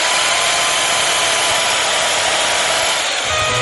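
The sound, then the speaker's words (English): A power drill whirs loudly and steadily, a continuous high-pitched mechanical hum that holds for a few seconds with no pauses and no voices. “experimenting with drill music.”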